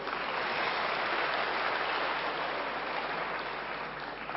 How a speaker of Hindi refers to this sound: हाँ देखो 10-15 लोग तो पास हैं इस सभा में, उनके लिए ताली बजाओ।